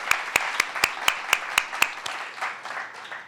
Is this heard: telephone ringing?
no